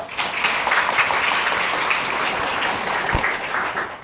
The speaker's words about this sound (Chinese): 用热烈的掌声